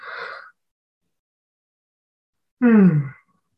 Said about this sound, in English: I'm going to yawn.